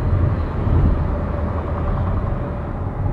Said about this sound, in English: Well, here goes a truck, hold on.